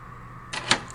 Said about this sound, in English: Yeah, it does. It locks right from the inside. Look at that.